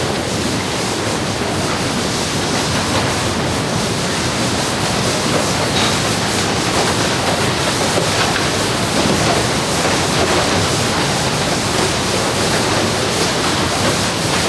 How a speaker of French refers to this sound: C'est le fer optique, hein, là, qui... c'est vraiment le fer optique, tous les petits jets d'air qui permettent de séparer sur deux tapis différents les objets qui... tels qu'ils ont été identifiés.